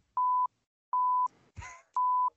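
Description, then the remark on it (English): Three identical electronic beeps, each a steady mid-pitched tone lasting about a third of a second, sound at an even pace. A short burst of muffled noise falls between the second and third. “It's gonna be beep beep beep.”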